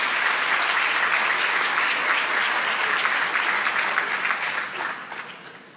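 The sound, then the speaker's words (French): Sustained applause from a sizable audience congratulating three newly elected vice-presidents, steady and dense for several seconds before gradually thinning and fading out toward the end, with no speech over it. “Donc, on peut les féliciter, les applaudir.”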